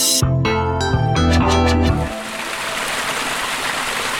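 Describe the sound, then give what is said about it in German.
A short musical jingle ends and gives way to a steady, loud rush of water pouring over the old weir of a sawmill on the Stadtbach stream below Fischweier, a continuous roar with splashing texture and no voices. “Es plätschert und rauscht hier, wie an einem Wasserfall. Es ist aber kein Wasserfall, sondern das alte Mühlwehr der Schneidmühle am Stadtbach, unterhalb von Fischweier.”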